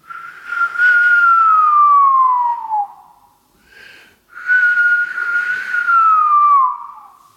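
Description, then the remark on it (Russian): A human whistle imitating a Eurasian golden oriole's song: two long, loud, fluty phrases that glide downward in pitch, separated by a brief higher chirp, with no talking. “Потом именно из-за этой «Глиссандефюгель» я и пошел в магазин, я нашел эту птицу, это оказалась Иволга.”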